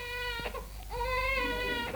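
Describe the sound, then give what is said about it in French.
A newborn baby cries in sustained, high-pitched wails, two long cries separated by a brief catch of breath, loud and piercing with no talking over them. “Les cris que vous entendez ne sont pas ceux d'une victime, mais tout au contraire, les cris vainqueurs d'un nouveau-né qui vit, qui lutte et qui veut vivre.”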